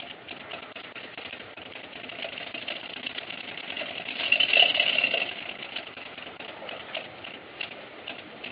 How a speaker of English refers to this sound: You will notice here as I place this close to a Geiger counter that this is normally somewhat radioactive. You can hear the counter clicking faster as I move the sample closer to the counter.